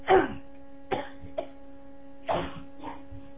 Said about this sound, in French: Je tousse beaucoup, une seconde.